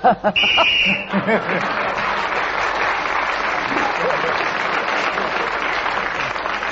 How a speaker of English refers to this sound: at the end of that round, you've got 2 points, because you got one for speaking as the whistle went.